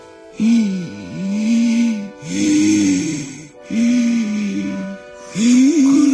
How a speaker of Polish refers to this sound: chodziłem nad rzekę i całą piersią wsiągałem powietrze. O tak.